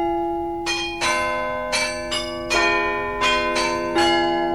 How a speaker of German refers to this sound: Glockenspiel am Rathaus in München. Der neugotische Bau am Marienplatz ist nicht nur eine Attraktion für viele Touristen, sondern er dient auch als Verwaltungsgebäude.